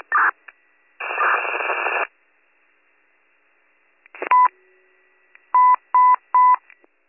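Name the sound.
dispatch radio alert tones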